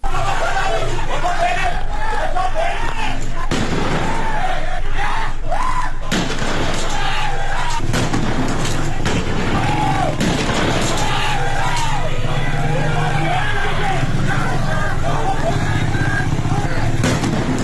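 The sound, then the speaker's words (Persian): Sharp, loud bangs of gunfire and explosions burst out at irregular intervals over the constant noise of a crowd, with shouting and chatter filling the street throughout, during a street protest in Qahderijan, Isfahan province, Iran. “در قحطریجان در استان اصفهان خبرها حاکی از صداهای تیراندازی و انفجار همزمان با تظاهرات بود، تا آنجا که شهروندان از صحنه‌های جنگی در این شهر سخن گفتند.”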